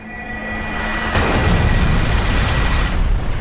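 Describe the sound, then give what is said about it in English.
A synthetic cannon blast from a video game, the attack Lunar Cannon used by the foe Cabaret, bursts in after a rising whine, then a loud, sustained rumbling explosion fills the rest of the moment with no talking. “Foe Cabaret used Lunar Cannon.”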